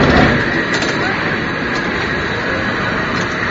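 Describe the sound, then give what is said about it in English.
A cable car going back down Knob Hill at Powell on Pine Street rolls past close by on the left, a loud, steady rumble and clatter of wheels on track that holds even throughout, with a couple of faint metallic clicks riding on top. “Another cable car about to pass us on my left.”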